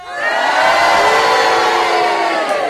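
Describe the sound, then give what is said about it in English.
A studio audience cheers and boos at once to judge a panelist's challenge, a loud, dense wall of many voices that swells quickly and holds steady for a couple of seconds before easing off. “I think the cheers have it”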